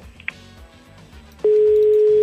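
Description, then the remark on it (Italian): A faint, muffled background with a brief click gives way to a loud, steady telephone line tone after a phone call drops, starting abruptly and droning on unbroken until the end, with no talking. “Niente, è andata giù.”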